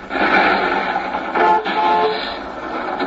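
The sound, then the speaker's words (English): A Greyhound bus sound effect: a dense, steady roar of engine and road noise that swells and dips slightly over a few seconds, with no voices. “I meant a greyhound dog, not a greyhound bus.”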